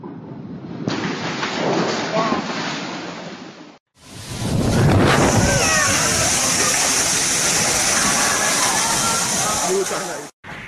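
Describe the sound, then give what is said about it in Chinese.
Heavy wind and driving rain of yesterday's typhoon roar in a dense, steady wash of noise, briefly cutting out before resuming even louder, with indistinct voices buried beneath the downpour. “那么在开始进入今天的学习之前，我想给你们放一段视频，看看昨天的台风到底有多么严重。”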